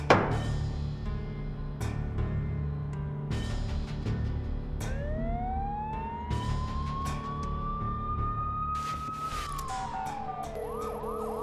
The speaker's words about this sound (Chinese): 你听，听到外面的警笛声了吗？